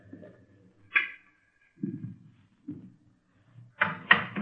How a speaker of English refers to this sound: Go ahead, open the door. Go ahead.